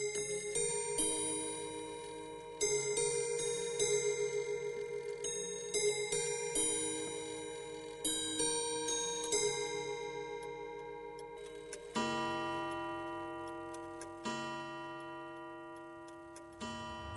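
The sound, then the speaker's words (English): An old mechanical clock at a horology school ticks steadily while its bell-like chimes ring out a slow melody, the Westminster chime, each struck note sustaining and fading over the ticking. No one speaks. “And the clock they have in there, that old one, is really fascinating.”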